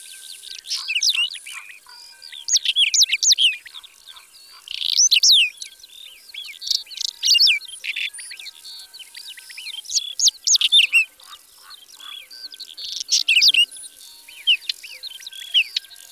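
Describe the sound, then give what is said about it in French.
A whinchat, a small songbird perched on a post, repeats its usual sharp, scratchy call in quick bursts of chirps, fairly loud, with short pauses between groups and faint background twittering; no one speaks. “Ça, c'est son cri habituel. Yutek, yutek-tek. Et il s'envole.”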